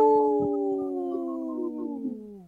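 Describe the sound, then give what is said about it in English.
A single long wolf howl, steady and clear, slowly sliding downward in pitch for a couple of seconds before fading out, heard alone without any voices. “This portion of the show is supported by Howling for Wolves, protecting wolves for future generations.”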